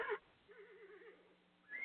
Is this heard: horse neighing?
yes